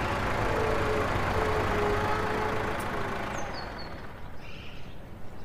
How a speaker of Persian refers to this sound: صبح شده. منصور تو گاراژه. از تو دفتر ماشین رضا رو میبینه. رضا با ماشین میاد تو گاراژ.